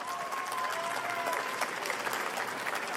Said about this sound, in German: Okay, wir haben hier noch drei krasse Typen. Einmal einen Tosen Applaus für die drei krassen Typen hier.